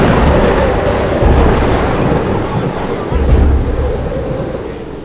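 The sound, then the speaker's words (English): Roaring wind and crashing waves fill the air in a loud, continuous storm at sea as a ship heads straight for it, with heavy low rumbling surges swelling every second or two. “You're heading straight for the storm!”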